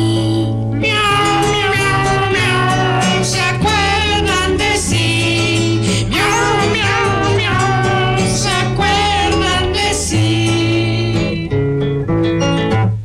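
A singing voice imitates a cat, drawing out wavering meow-like notes over a loud, steady musical backing that plays throughout without pause.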